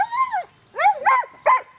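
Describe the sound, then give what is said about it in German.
A German shepherd named Yukon, a border guard sniffer dog at Basel Zoo, wants to play and gives a drawn-out whimpering whine followed by two short, sharp barks, fairly loud, with no talking. “Der Schäferhund Yukon will spielen.”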